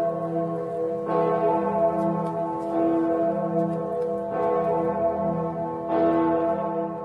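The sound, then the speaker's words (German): The huge, deep Gloriosa bell of Erfurt Cathedral in Erfurt, Germany, tolls in slow, regular strikes about every second and a half, each rich resonant hum overlapping the last, loud and sustained with no voices. “Von der weltberühmten Gloriosa-Glocke am Erfurter Dom.”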